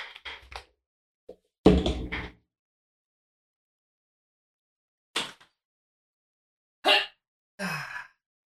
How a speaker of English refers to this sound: Until we meet again, I'm off to hurl my headphones out of a window and see what happens.